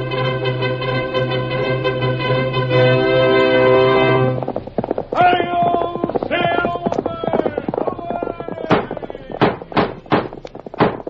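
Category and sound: animal, galloping horse hoofbeats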